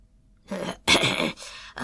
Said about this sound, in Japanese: そう言って老人はまた長く咳いった。